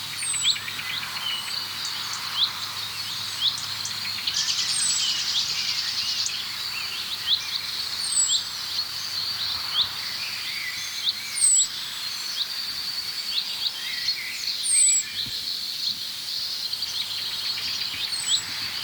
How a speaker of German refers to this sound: Wir hören das Duck, Duck, Duck der Amsel.